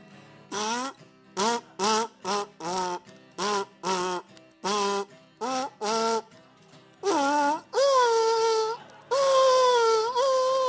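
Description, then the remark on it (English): A kazoo mimics a dog: about ten short, buzzy yips in an uneven rhythm, then three longer wavering notes that slide upward like a whining howl. No one speaks. “should I play some kazoo now?”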